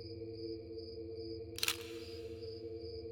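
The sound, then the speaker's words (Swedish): A single crisp camera shutter click, a quick double snap, from a camera shooting a timelapse at one frame every 5 seconds, sounds once midway through against a steady low electronic hum in the quiet night. “Kameraljudet ekade nästan i den tysta natten.”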